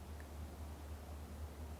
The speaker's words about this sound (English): And as you quieten and settle, starting to become aware of the sounds around us. The sounds in the room, the gentle hum of the air conditioners,